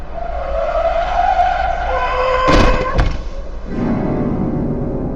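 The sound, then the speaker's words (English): A truck's tires screech loudly for a couple of seconds as it skids, then a sharp heavy impact thuds as it hits a woman pedestrian and throws her to the pavement, followed by a low rumbling engine. No talking. “The truck hit her hard.”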